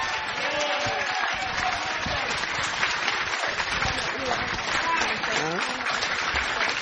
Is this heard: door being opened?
no